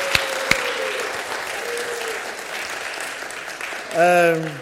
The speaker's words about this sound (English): why don't you stand up and let your church clap you and give you a round of applause for all that you do? Yay!